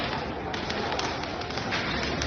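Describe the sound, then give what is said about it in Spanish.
A street clash between Betis and Fiorentina football ultras near the Alameda de Hércules around 10:30, the night before their Conference League semifinal first leg at the Villamarín: a dense, steady roar of crowd noise with scattered sharp clattering impacts of thrown chairs and flares, continuing loudly throughout with no clear speech. “zona de la Alameda de Hércules, sobre las 10:30 se han enfrentado ultras del Betis y de la Fiorentina. Mañana juegan ida semifinales de la Conference League en el Villamarín. Se han lanzado sillas, bengalas.”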